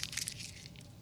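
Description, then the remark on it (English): A slip of paper being crumpled by hand: a steady run of crisp, high crackles and rustles, busiest at the start and softening slightly, fairly quiet with no voices. “I want you to crumble it up in your hand.”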